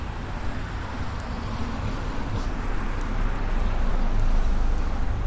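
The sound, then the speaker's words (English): Steady roadway rumble with nearby traffic noise that swells gradually louder, cars passing close by outdoors in a road detour area; no talking, just continuous low engine and tire hum. “Man, those cars seem too close.”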